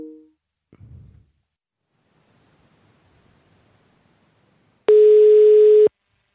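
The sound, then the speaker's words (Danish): A loud, steady telephone tone after a dropped phone call sounds for about a second after a stretch of near silence and a soft rustle, with a brief tone fragment at the very start. “Jeg ved ikke, om vi mistede forbindelsen, men...”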